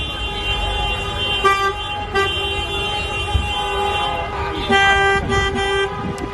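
Car horns honk continuously over street traffic noise, several overlapping sustained blasts with a few sharper bursts, as a midday protest convoy of driving-school cars moves through the streets of Albacete.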